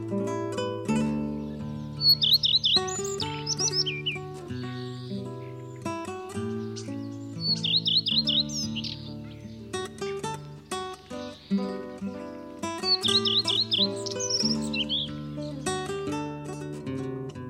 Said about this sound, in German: Das war der Gartenrotschwanz.